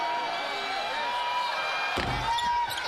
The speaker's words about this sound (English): Free throw good. You hear the thump of the rim, and then it goes back rim and drops in. So BYU makes the free throw to make it 33-16.